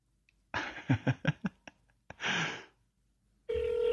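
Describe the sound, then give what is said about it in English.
A phone rings on a voicemail recording left after a missed phone call: a run of short breathy, rustling noise bursts, then a steady, buzzy electronic ring tone starts loudly at the very end. No one speaks. “So my voicemail was it's ringing, so I guess I'm calling you, and it's your voicemail.”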